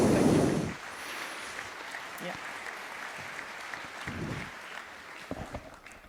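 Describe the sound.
An audience applauds steadily for several seconds, a dense, even patter of many hands clapping. A brief loud voice rises at the very start, and faint vocal sounds surface under the clapping later.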